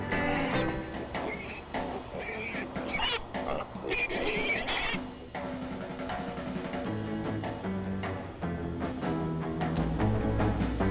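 An upbeat surf rock instrumental plays steadily and loudly, twangy guitar lines over a driving rhythm, with no voices.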